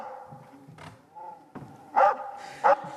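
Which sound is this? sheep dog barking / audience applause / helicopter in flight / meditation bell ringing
sheep dog barking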